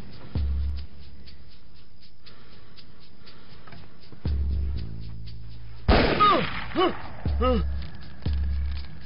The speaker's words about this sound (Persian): صدای کی بود؟ گلوله بود؟ آره شکارچیان. راست میگه، همیشه این دور و بر پرسه میزنن. قبلا هم شنیدم.